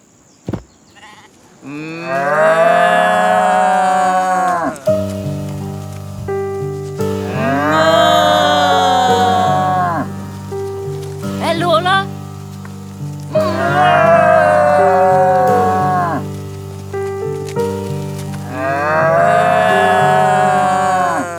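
Four long, loud mooing calls from cows, evenly spaced with short pauses between, over a steady low humming tone that runs throughout. Nobody speaks.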